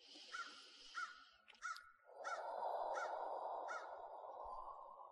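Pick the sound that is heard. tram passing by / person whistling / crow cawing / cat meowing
crow cawing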